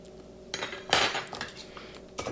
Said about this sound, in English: I'm going to stir it a little longer because it's still a little strong. This is an old-fashioned style drink, so it's going to continue to change once we get it into the glass.